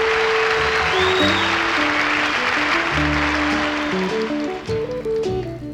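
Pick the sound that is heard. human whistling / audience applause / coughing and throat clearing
audience applause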